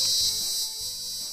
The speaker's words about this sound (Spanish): Ahí está la chicharra, es amiga personal, es vecina,